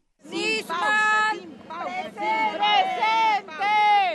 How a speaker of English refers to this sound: Shouting for justice and lighting candles, protesters stood outside Alberto Nisman's wake last night.